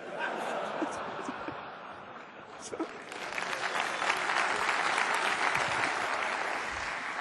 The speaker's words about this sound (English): Don't applaud that kind of stuff. Because you know there are like three people here that are offended by that.